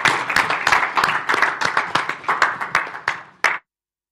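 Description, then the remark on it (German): A crowd gives a friendly welcoming applause for a singer during the Advent season, with rapid, overlapping claps that hold steady for about three and a half seconds, then stop abruptly, leaving silence. No one speaks over the clapping. “Und ja, lasst uns ihn doch auch mit einem ganz freundlichen Applaus willkommen heißen und freut euch mit mir.”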